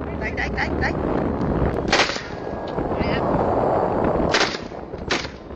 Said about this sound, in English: These are big steel ships, and very early on into the video, you start hearing gunshots, and that's when I immediately stopped everything else I was doing and focused.